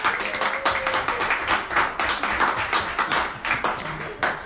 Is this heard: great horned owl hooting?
no